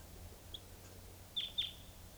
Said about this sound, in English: Started recording at 6:20 a.m. and I thought I heard a wild type 2 bird coming in. What's that? I mean, there is a wild bird here.